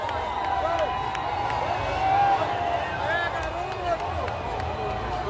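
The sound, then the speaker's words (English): A large crowd of Bolsonaro supporters near the military fort at the end of Copacabana Beach, Brazil, having broken through barriers to get closer to the president, shouts and chants together in a continuous, dense roar, "Lula, thief, your place is in prison", with overlapping voices rising and falling and occasional sharper yells cutting through. “Bolsonaro supporters who have broken through the barriers to get closer to the president. Now they're shouting, "Lula, thief, your place is in prison."”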